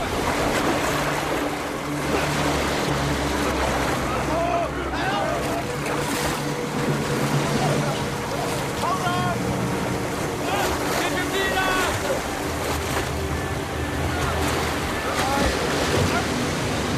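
rushing river rapids

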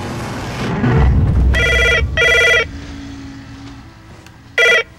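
house phone ringing

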